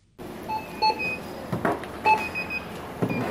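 Short electronic checkout beeps sound repeatedly at a store register as a North Korean defector's purchases are scanned, with a few tones spaced about half a second apart over a busy background of rustling and thuds.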